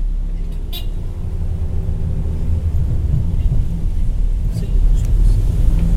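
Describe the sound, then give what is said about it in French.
A steady, loud low rumble inside a city bus travelling from the airport to the city centre of Santa Cruz, Bolivia, its engine droning continuously, with a couple of brief rattles cutting through the constant road noise. “Et face à la sortie, il y a des bus qui vont dans le centre-ville et on monte dedans.”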